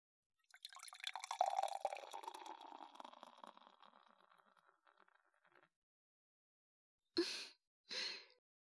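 An alcoholic drink is poured steadily into a glass by a guest for about five seconds, fairly clear, gradually tapering off, followed by two short breathy exhalations after a brief pause.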